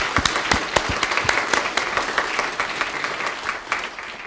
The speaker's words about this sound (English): 是万主之主，是万王之王。 He's the Lord of the Lords and the King of the Kings. 我们鼓掌。 That's applause for him.